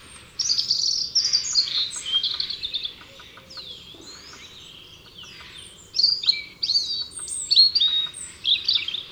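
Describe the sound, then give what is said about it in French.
A European robin perched on a branch tirelessly sings a wistful, melancholy song: bursts of thin, high warbles and trills, a brief lull in the middle, then another run of clear whistled phrases over faint background hiss. “Un tranquille rouge-gorge gazouille de manière infatigable une mélodie mélancolique.”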